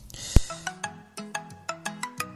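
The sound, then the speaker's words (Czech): A telephone rings in a radio studio as a listener calls in, with a bright, melodic electronic ringtone, a quick series of about eight chiming notes over a couple of seconds, moderately loud, with no one talking. “telefon.”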